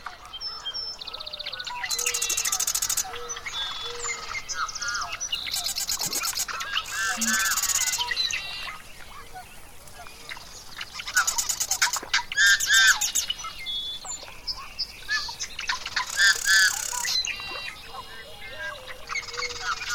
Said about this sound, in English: Now to listen as the sunlight weakens, the insects emerge, and the birds sing their goodnights before the frogs take over for the evening.